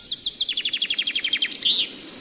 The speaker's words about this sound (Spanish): Son pájaros en una selva de nuestro planeta. Todos estos sonidos están dentro de un disco de oro que fue enviado al espacio en la nave Voyager.